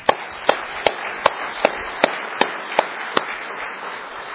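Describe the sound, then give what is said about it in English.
An audience applauding the Lord, with a steady wash of many hands under sharp, evenly spaced claps that keep a brisk beat, about ten in a row, fairly loud, with no voices. “I want to give the Lord a round of applause.”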